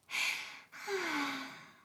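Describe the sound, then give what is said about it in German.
A voice imitates a squirrel yawning as it lies down to sleep for the winter: a breathy intake followed by a long, sighing exhale that slides downward in pitch, clear with no other sounds. “Und es gähnte.”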